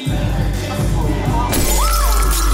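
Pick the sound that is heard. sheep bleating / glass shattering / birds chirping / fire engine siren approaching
glass shattering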